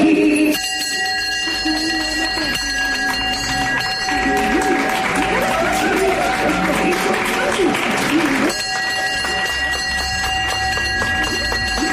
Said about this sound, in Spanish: Es el sonido de una campana con la que enfermos de cáncer celebran la vida y la victoria frente a esta cruel enfermedad.